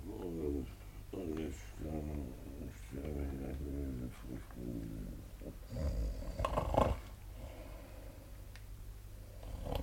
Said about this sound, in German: Oh, und der Tote schnarcht ja. Hier liegt irgendein lebendiger Lümmel.